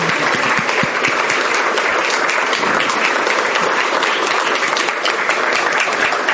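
A crowd claps steadily and loudly for several seconds for the announcement of the winner of the FUSE Ethics in Action Award, a dense, even wash of many hands with no pauses and no voices rising above it.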